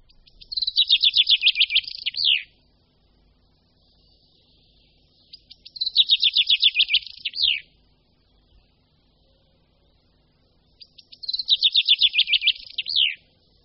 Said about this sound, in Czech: Pěnkava obecná je původcem jednoho z nejčastějších hlasů v naší přírodě. Ozývá se v lesích, parcích, zahradách, no prostě všude, kde jsou nějaké stromy. A mimo hnízdní době se s pěnkavou můžeme setkat i v polích, remisích nebo v křovinách.